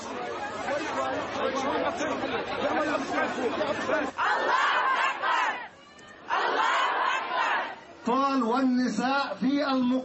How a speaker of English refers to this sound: And now to Germany, an estimated 3,000 people marched in Berlin, waving Palestinian flags and chanting.